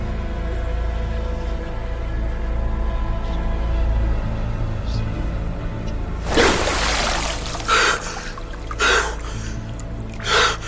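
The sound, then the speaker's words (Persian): Over a steady low hum, a person sits down and plunges their head into swimming pool water with a rushing splash, followed by three short, sharp bursts of bubbling or gasping spaced a second or so apart. “میشینه و سرش رو توی آب استخر فرو میبره.”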